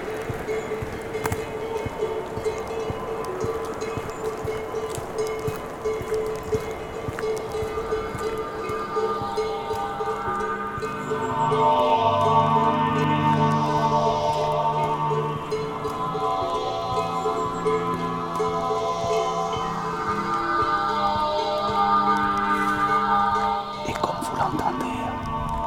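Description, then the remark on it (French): A steady hiss of light drizzle and wind rustling through treetops on a trail in the Bosque del Sur, with some faint tonal calls rising over it midway through. “Il pleuviote. Un bruit de fond. Le vent sur la cime des arbres.”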